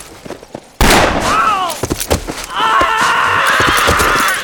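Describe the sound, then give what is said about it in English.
Horses ridden hard into the Lightning Ranch compound burst into a loud gallop, hooves pounding in a rapid irregular clatter, while a sharp neigh rises and falls, followed by a sustained, strained whinny over the continuing hoofbeats. “The brothers and Louis were nipping at their heels when they rode into the Lightning Ranch compound.”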